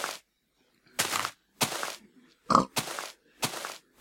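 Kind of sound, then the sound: animal, pig grunting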